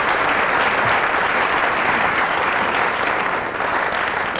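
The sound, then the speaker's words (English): An audience claps steadily throughout, a dense, even wash of applause that stays loud without rising or fading, with no voices breaking through. “Round of applause.”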